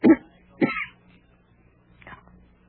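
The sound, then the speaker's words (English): A sick, feverish patient gives two harsh, strained, painful coughs in quick succession, followed by a softer, weaker cough a moment later, with no talking. “Cough hurts.”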